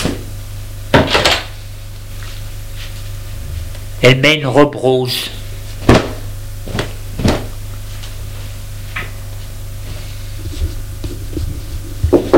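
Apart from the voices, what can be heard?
wardrobe door opening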